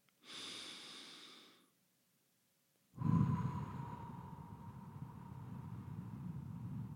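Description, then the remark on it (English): Loud, slow, raspy breathing done as a focusing exercise: a long hissing inhale, a short pause, then a longer rushing exhale with a throaty, wave-like roar. No one speaks. “This one guy, and I talked about it before, how this guy used to call it ocean sounds, and I've always called it zombie sounds.”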